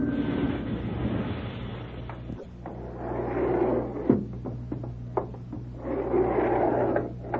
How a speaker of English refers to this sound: Hey, wait a minute. Sounds like another elevator coming.